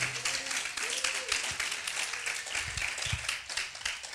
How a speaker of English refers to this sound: Good morning. And come on, if you love Jesus, clap your hands in chapel this morning.